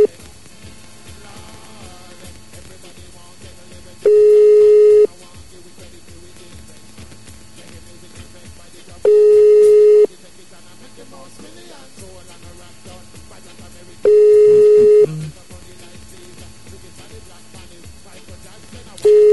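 A telephone call tone sounds in steady one-second beeps roughly every five seconds, clear and fairly loud, with a faint murmur of background sound between the beeps; a call from a radio show to referee Elizondo's phone has been hung up.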